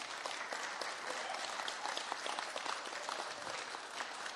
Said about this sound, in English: I think we should give him a really big hand.